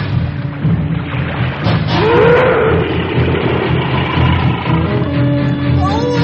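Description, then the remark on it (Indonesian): A deep, drawn-out whale call groans and swoops in pitch over a heavy, rumbling low drone. It sounds loud, with a few fainter moaning tones trailing after it. No voices. “Ikan paus itu semakin dekat.”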